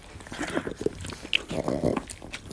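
Ruby, a well-behaved dog, moving about with scattered rustles, snuffles and soft chewing-like clicks over a couple of seconds, plus a brief whiny tonal murmur near the end; no talking.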